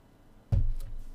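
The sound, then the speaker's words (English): Someone takes a sip of water: a sudden low gulp or thump, then a short rumbling swallow with a faint click, no talking. “I may have to take a drink of water, and I might have the first, like, craptacular cough session sign-off.”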